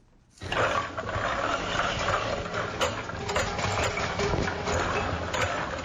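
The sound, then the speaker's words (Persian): Small production machines of the Ariana factory, which makes hair shampoo and cosmetic creams in two small rooms of a residential house on the outskirts of Jalalabad, run steadily after a quiet start, a dense mechanical roar with faint rhythmic clattering and occasional sharp clicks, loud and continuous with no talking. “صدایی را که میشنوید از ماشین های کوچک فابریکای به نام آریانا است که برای باشندگان ولایت شرقی شامپوی مو و کریم های آرایشی را تولید میکند.”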